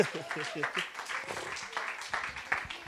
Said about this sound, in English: Come on, give the Lord a praise clap.